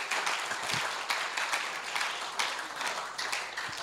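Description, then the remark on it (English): An audience claps for themselves together, a dense, steady patter of many hands that holds at a fairly even loudness for a few seconds with small swells, and no one speaks over it. “You guys are doing well. You are doing. Clap for yourself.”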